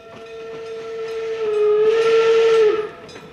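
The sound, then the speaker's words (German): A steam train whistle at Eifort railway station blows one long, loud, steady tone, swelling with a hiss of steam before cutting off sharply, with no one speaking. “Meine Herren, wir werden uns nicht weit vom Bahnhof Eifort entfernen müssen, um das Haus zu finden.”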